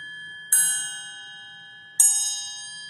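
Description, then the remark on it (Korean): A metal triangle, made from a single piece of metal in three sections, is struck twice, about a second and a half apart, each hit giving a bright, shimmering high ring that sustains and slowly fades over a faint low hum. “하나의 철물로 되어 있는데 세 가닥이에요. 어디를 때려도 소리가 나요.”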